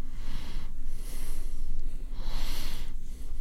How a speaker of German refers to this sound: Da schnauft er nur.